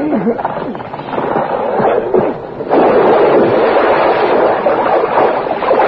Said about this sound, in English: As the truck submerges, the two men climb into the waiting car, which is being driven by a woman.